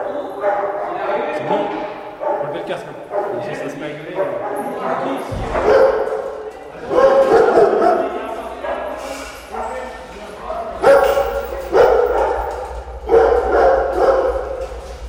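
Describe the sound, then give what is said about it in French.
Many dogs bark and yip excitedly in a dense, continuous chorus, with occasional whines mixed in and a low rumble underneath; the dogs bark because they are waiting for their food at the meal break of a dog training session. “Alors que vous avez tous les chiens qui aboient parce qu'ils attendent la gamelle et à l'intérieur, c'est voilà.”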